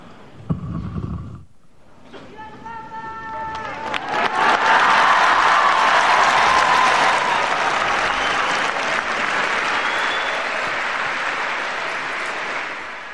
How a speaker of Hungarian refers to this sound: A kedves hallgatók hallhatták ugye, hogy sokan vannak, hiszen a taps vihar az nagy volt ma is, és ezennel véget is ért a mai audiencia.